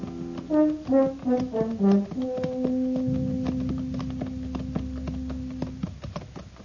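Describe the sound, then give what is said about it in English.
Horses' hooves clip-clop in a steady walking rhythm as riders come up an almost deserted main street in the town of Elkader at noon, half-buried under loud melodic music that rises, then settles into sustained tones with a low rumble. “It was noon of the second day when we rode up the almost deserted main street.”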